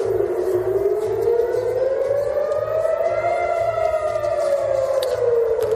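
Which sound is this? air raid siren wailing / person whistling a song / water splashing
air raid siren wailing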